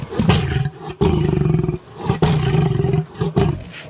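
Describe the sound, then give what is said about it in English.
A deep, rumbling roar repeated in three long, loud bursts with brief gaps, heavy in the low end, like a lion's growl: a cat's glottal sound slowed down and with its low end highlighted in the University of Miami audio lab. “glottal sound from a cat”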